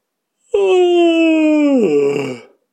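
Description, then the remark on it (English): A voice imitates Buckle's long, drawn-out yawn, like a lion without a roar, holding one steady pitch for over a second before sliding down into a breathy, fading finish. It's fairly loud, with no other sounds. “Buckle yawned like a lion without a roar, but with a...”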